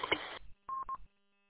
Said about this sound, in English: Do you have a timeout timer on that radio? Is that what I keep hearing chirping?